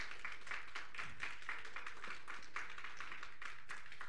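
A round of applause from a crowd: dense, steady clapping that carries on evenly for about four seconds at a fairly soft level, with no voices over it.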